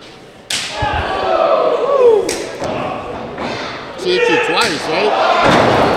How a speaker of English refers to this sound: Who are we smacking with chairs?